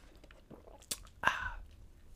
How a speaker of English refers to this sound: I'm going to take a sip here, fans. Sorry.